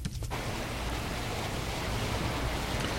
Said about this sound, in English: Okay, that's my … album playing in the background now. And if I do VO dash again, it stops the audio playing.